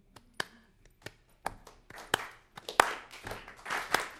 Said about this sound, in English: If you want, then give me a little background clapping along, you know?